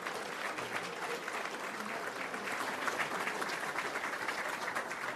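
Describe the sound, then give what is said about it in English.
An audience claps steadily for Sheriff Tom Dart, a dense, even wash of many hands that holds at a moderate level for about five seconds with no voices on top. “So let's give Sheriff Dart a round of applause.”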